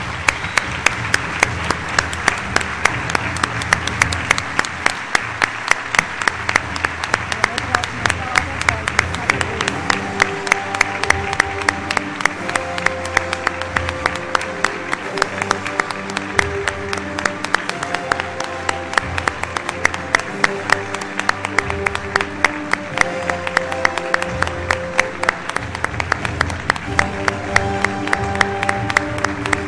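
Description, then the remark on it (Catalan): A crowd applauds loudly and steadily for about half a minute, the dense clapping never letting up, while tuneful music rises underneath partway through. “Un fort aplaudiment.”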